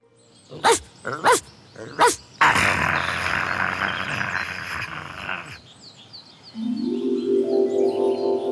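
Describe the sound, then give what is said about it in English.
A dog with a big bone barks three times in quick, sharp succession, followed by a noisy scuffling stretch, then a long, low, rumbling growl that continues to the end. Fairly loud. “What's that? A dog. He's got a big bone.”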